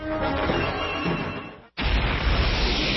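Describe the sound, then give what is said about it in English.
A building collapses with a thunderous, rumbling crash, a dense roar of debris that briefly cuts out, then surges back louder and heavier, sustained, with no voices. “Tune in every evening to hear the thunderous crash as I pull the linchpin from the foundations of the House of the New World Order as it crashes down.”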